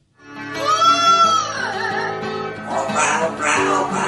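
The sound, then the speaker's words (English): A parrot named Tico sings in warbling, wavering tones that slide up and down, turning raspier and more strained toward the end, over a steady low rhythmic accompaniment. “he's a very talented parrot.”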